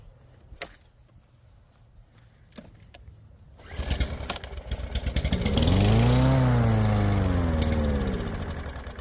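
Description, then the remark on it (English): A few sharp clicks and taps, then a small engine, just primed and sprayed, sputters to life and runs loudly, its droning pitch rising and falling as it revs before settling into a steady rattle. “Hey, it sounds like it's getting happier. It ran longer that time.”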